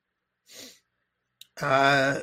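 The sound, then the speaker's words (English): A single short, airy sniff through the nose to clear it, then a pause, a faint click, and a brief voiced hum. “no sniffle. I was just clearing my nose.”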